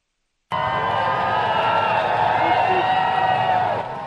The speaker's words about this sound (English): A hearty cheer from the crowd as King Charles arrived in Berlin Wednesday for his first foreign trip as Britain's monarch.